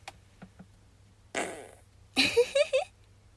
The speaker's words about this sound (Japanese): 本日一発目のおならになるかと思います。では、出そうなので出します。